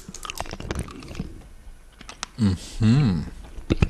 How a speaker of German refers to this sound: Okay, kann man doch kauen. Man schmeckt wie so ein. Kennst du noch diese Kaugummis aus dem Kaugummiautomaten? Ja. Die schmecken so, ne?